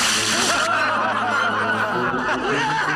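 Water splashes and pours down onto someone's head in a loud, continuous rush lasting a few seconds, with people snickering and laughing over it.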